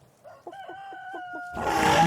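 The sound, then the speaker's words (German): A rooster crows in a long, sustained, nasal call with no talking, then is abruptly cut off by a loud, rough, roaring burst of noise that fills the final half second. “Das Huhn ist genetisch dem Raubsaurier Tyrannosaurus Rex am nächsten.”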